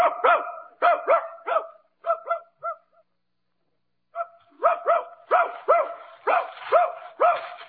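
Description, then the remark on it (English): A dog being taken out with a gun to hunt rabbits barks loudly in quick, repeated bursts, pauses briefly, then launches into another steady run of sharp barks. No one speaks. “Okay, suppose I get my gun and my dog and we'll look for a couple of rabbits, huh?”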